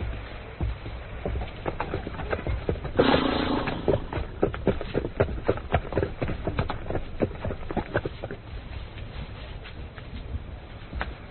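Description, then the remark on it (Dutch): Horses' hooves clip-clop in an irregular, shuffling rhythm as the horses are being tied up, with a brief burst of rustling or snorting partway through; no one speaks. “Maar goed, ik zal de paarden vastbinden.”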